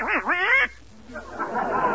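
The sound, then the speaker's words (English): A loud, nasal duck quack sounds for about half a second, then fades into a short lull before a stretch of rough, rustling noise. “A duck? I don't mean you, dear, but poultry is delicious.”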